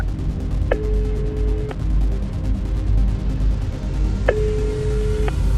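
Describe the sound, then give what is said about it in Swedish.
Two long, steady electronic ringing tones about three seconds apart, an incoming phone call ringing out, heard over a dense low rumble and hum. “Den här gången var det inte vi som ringde till Max, utan Max som ringde till oss.”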